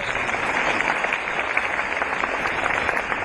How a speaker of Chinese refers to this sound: 对， 鼓掌。